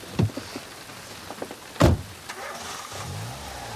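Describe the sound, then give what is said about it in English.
A patrol car's door shuts with a solid thump, preceded by a softer clunk of a man climbing in, followed by shuffling and a low rising hum as the car starts, in the rain. “Muttering a curse, he gets into the car.”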